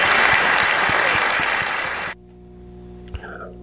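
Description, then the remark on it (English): A debate audience in Pinellas County claps loudly and steadily for about two seconds for candidates Alex Sink, Lucas Overby and David Jolly after their opening statements. The applause cuts off abruptly into a quiet hum, with a faint brief sound near the end. “All right, just give a round of applause for our three candidates, if you would.”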